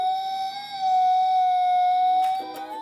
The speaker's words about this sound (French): Il ressemble à un vrai, il bouge, mais surtout, il est doté d'une caméra. Et quand quelque chose passe devant lui, comme, disons, un ours, par exemple, eh bien, il imite le hurlement d'un vrai loup.